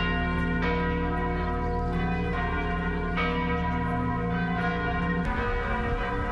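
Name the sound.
cathedral church bells ringing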